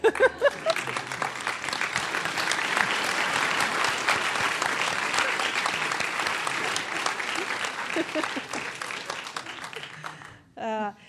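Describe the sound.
An audience applauds steadily for a guest seated among them who stands up, about ten seconds of a dense wash of many hands clapping that stays loud throughout, then fades as a voice begins speaking at the end.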